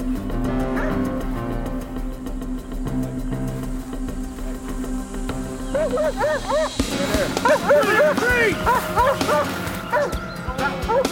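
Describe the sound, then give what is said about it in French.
A police canine unit's tracking dog barks and whimpers in quick, high-pitched bursts that grow busier and louder over the second half, following a stretch of low, steady droning background sound. “Le chien n'eut aucun mal à retrouver son auteur.”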